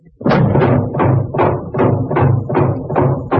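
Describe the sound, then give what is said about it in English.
Steel shutters slam down over all the doors and windows in a loud, rapid run of heavy metallic clanks, about eight evenly spaced impacts, each with a brief ringing decay, with no voices. “Hey, we're trapped. Steel shutters over all the doors and windows.”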